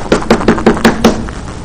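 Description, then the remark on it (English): Six quick, evenly spaced knocks on a door, fairly loud, rapping in a steady rhythm with a hollow wooden thud, then stopping abruptly. No voices. “If I came knocking on your door”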